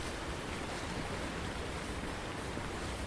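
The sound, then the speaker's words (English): Steady, unbroken rush of flowing water, a dense hiss spread evenly across the whole clip with no pauses or voices: water runoff pouring along a stream channel. “Quite a bit of water runoff.”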